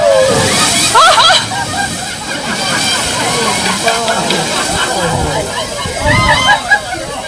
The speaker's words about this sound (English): Okay, now that was the humpback whale off the coast of Australia.